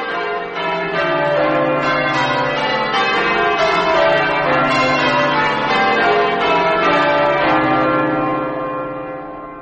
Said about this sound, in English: Up and down, hunting in their courses, go the bells of Fenchurch St. Paul. They have neither speech nor language, but their voices are heard among them. Their sound is gone forth into all lands.